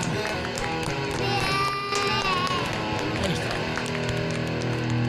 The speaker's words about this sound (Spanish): Pero yo que lo que quiero es mis aplausos. ¿Cuándo viene?